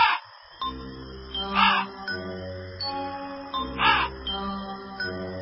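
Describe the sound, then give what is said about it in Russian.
Three harsh crow caws ring out at spaced intervals, loud, over a steady low droning background with faint tonal layers. “а в лесу темно, звери спят, только вороны. Карр, карр.”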